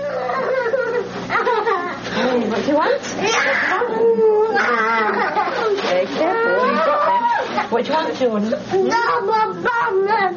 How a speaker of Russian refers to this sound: Тантрум. Называется то, что вы слышали. Неконтролируемая вспышка раздражения, истерика. Вот вы видите на улице или в общественном месте ребенка, который кричит, бросается на землю, и думаете, какой невоспитанный ребенок.